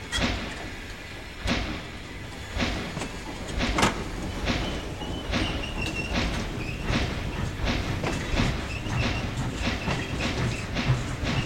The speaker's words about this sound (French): Quand la locomotive a démarré, tout le monde s'est mis à crier.